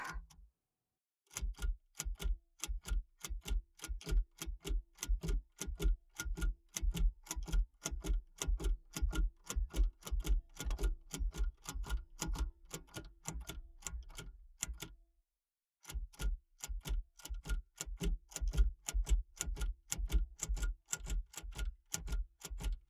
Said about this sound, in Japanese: これ、1文字打つごとに紙が移動していきますが、端っこまで来たら、また紙の位置をスライドさせて元の位置に戻すんですか？